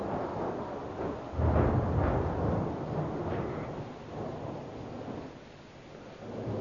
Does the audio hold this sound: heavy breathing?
no